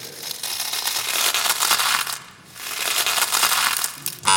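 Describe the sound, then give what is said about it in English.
Dry, crackly crunching of Frosties cereal flakes in two steady bursts with a short pause between them, bright and gritty, with no voices. “They're actually frosties.”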